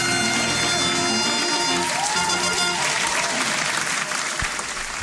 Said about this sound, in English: Oh, look, you BYO your own applause. But it's good to have the fanfare in there. Oh, yeah. It makes absolutely all the difference.